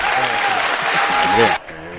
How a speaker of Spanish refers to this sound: Muy bien, Pereiro, un aplauso para ti.